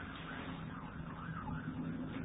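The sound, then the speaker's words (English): A wavering emergency siren wails steadily against a dense wash of city traffic noise, continuous, with no voices present. “But through all of that, the sirens, all the noise that goes on in the city and wherever you are”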